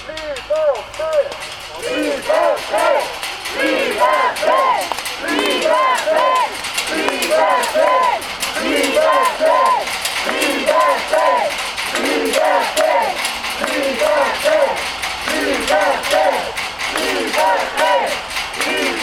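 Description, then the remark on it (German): A large crowd of demonstrators at the Besslergut prison chants and shouts in loud, overlapping voices for the whole stretch while rattling the prison's metres-high outer fence, scattered metallic clattering and rattling mixed into the din. “Dort angekommen skandieren sie und rütteln am meterhohen Außenzaun des Gefängnisses.”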